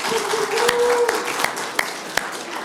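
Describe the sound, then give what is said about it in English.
A crowd applauds an announced HVAC fundraiser total in a steady, dense patter of many hands, with a few sharper individual claps standing out at irregular moments and a faint sustained tone underneath early on. “But we do have, clap.”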